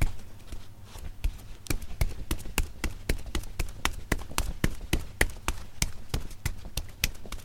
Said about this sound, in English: Okay, that's not the actual sound of Daniel Lieberman running down the street, but it could be.